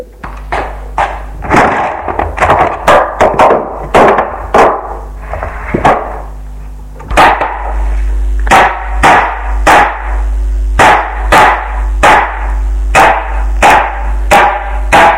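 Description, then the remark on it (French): A hammer repeatedly strikes a screwdriver to force open a tin can, a long series of sharp, loud metallic knocks, uneven at first and then steadier, with no voices. “Alors il prend dans le tiroir de la cuisine un tournevis et un marteau pour ouvrir sa boîte de conserve.”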